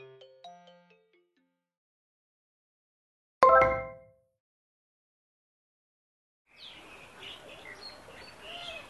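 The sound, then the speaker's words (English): A busy flutter of high, bright chirps builds near the end, like several small birds tweeting together, after a short tonal jingle and a single sharp ringing burst. “Now I can hear birds.”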